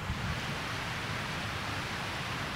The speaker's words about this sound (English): Why not just listen to the sound of the waves? Right? Pretty good, right? Fucking waves. Fucking relaxing, isn't it? So listen to them. Oh, fuck yeah. Relaxing.